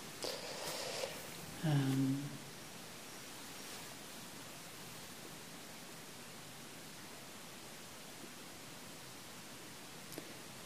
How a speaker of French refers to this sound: Pour écouter la pluie, effectivement, il faut tendre l'oreille, comme on dit.